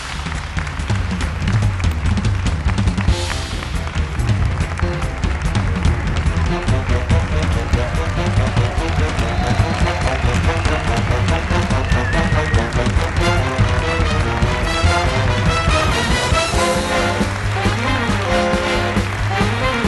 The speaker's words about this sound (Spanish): Venga, un aplauso para Javier del Pino y los cómicos.